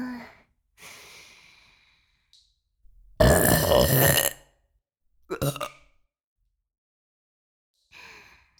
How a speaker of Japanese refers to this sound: こうやってお主に密着してるとゲップがしやすくて助かるの。ほれ、こっちの耳にも。